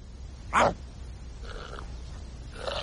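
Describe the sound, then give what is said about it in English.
A dog growls: one sharp, loud snarling burst followed by two quieter, rough, drawn-out rumbles, with no talking. “Oh, I don't like dogs.”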